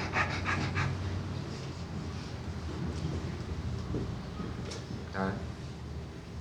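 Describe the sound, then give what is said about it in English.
A person pants heavily and steadily, quick rough breaths repeating over a constant noisy background, with a brief vocal sound near the end. “All right, walk yourself up panting.”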